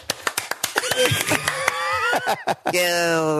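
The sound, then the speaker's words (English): A voice imitates a crowd of dwarfs cheering, with rapid tapping or clap-like hits and rising, warbling vocal whoops that end in a loud, sustained high cry. “That was dwarfs cheering.”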